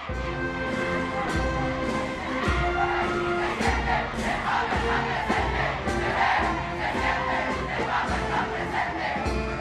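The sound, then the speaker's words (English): A large crowd roars steadily in front of St. Peter's Basilica in the Vatican around midday at Christmas, waiting excitedly for the Pope to appear on the central balcony; a dense wash of shouting and cheering voices with scattered sharper calls and claps rising above the constant din. “the crowds waited excitedly for the red velvet curtains of the central balcony of St. Peter's Basilica to part.”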